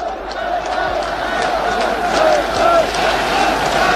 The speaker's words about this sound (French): Et sous les acclamations, il gravit lentement la tribune. Il accède maintenant, les bras levés en V, selon son geste familier, devant la foule qui acclame.